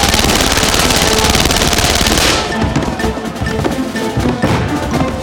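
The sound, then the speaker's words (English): Loud, rapid automatic gunfire from a stutter gun rattles in a dense continuous burst, then gives way to scattered heavy bangs and crashing blasts of grenades and a secondary explosion at a building, with no voices present. “The secondary explosion told Bolin one or more of his grenades had sparked a fire, the hungry flames exploring, looking for a place to feed.”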